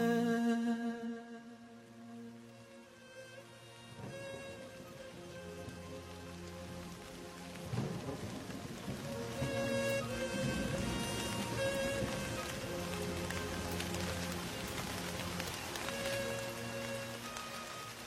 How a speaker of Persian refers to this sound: به به، چه صدای گوشنوازی این صدای بارون.